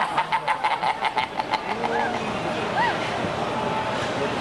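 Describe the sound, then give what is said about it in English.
A person imitates pigeon cooing: a quick run of rhythmic, clucking throat sounds, then two drawn-out rising-and-falling coos over a steady background hiss. “Ooh, I wish I was a pigeon right now.”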